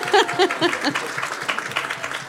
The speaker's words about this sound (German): Da gibt's Applaus, okay? Yay! Yeah.